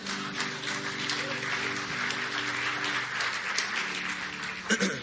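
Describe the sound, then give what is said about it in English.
An audience claps steadily for several seconds, a dense, continuous wash of many hands with a few louder claps near the end, over a faint sustained musical hum. “You want to, let's just give her a round of applause.”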